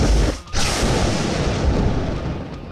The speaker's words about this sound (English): Partner Irwar used Lightning Bolt.